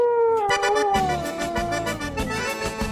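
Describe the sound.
A person howls like a werewolf on a live Friday radio broadcast in one long, loud, wavering cry that slowly slides down in pitch, with a steady rhythmic beat thumping underneath.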